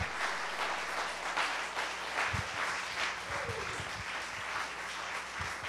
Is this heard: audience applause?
yes